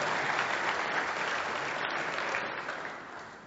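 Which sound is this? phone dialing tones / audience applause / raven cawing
audience applause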